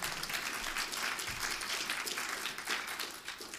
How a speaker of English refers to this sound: Now you can clap for that.